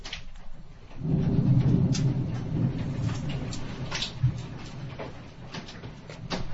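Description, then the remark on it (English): Hail hammers down during a thunderstorm in a dense, uneven clatter of sharp little impacts over a deep, steady storm rumble, loud, with no one speaking. “I'm getting significant hail here.”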